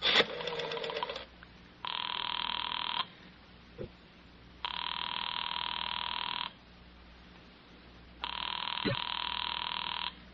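A telephone rings in three long, buzzing bursts separated by pauses of roughly two seconds, steady and moderately loud over a faint hiss, with a brief clatter at the start.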